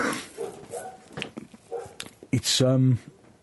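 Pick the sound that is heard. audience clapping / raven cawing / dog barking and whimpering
dog barking and whimpering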